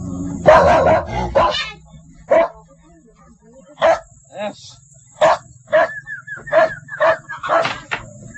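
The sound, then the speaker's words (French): A dog on a log under a wooden house on stilts barks repeatedly in short, sharp bursts at an uneven pace, loud, with a thin steady whine running underneath in the background. “Le buffle sous la maison, un chien sur une bûche.”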